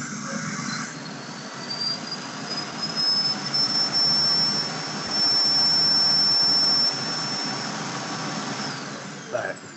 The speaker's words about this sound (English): Anyway, that was a vacuum cleaner. Oh, okay. So I got a self-cleaning vacuum.